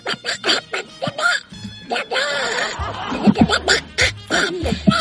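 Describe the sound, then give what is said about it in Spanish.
A Donald Duck cartoon voice quacks out a rapid, raspy string of garbled syllables in choppy bursts, loud, a human voice imitating a duck's squawking speech with brief pauses between phrases, from a dubbed cartoon series. “Aquí dice la voz del Pato Donald.”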